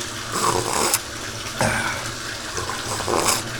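Water splashes and sloshes in a bathtub full of hot water as a person sits in it, in a few irregular surges, with broad watery noise swelling and fading; no one speaks.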